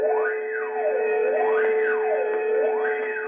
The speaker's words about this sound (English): A penitentiary, its high, thick walls looming black in the darkness. Inside, a sudden flood of searchlights illuminates every corner. Gates clang shut, and a siren wails frighteningly into the night.